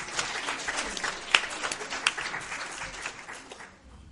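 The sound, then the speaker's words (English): A room full of people applauding steadily, a dense wash of many hands clapping at once, with a couple of sharper claps standing out, sustained for several seconds before tapering off. “You're the choir of the round of applause.”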